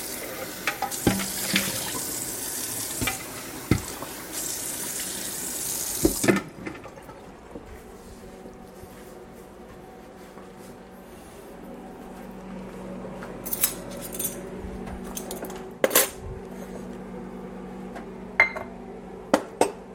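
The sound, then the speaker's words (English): Dry measuring cups made by Williams Sonoma are rinsed under a running faucet; the steady rush of water lasts about six seconds, then stops, followed by scattered clinks and knocks as the metal cups are handled. “Now, cleaning the dry measuring cups now.”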